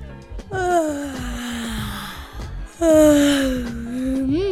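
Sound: yawning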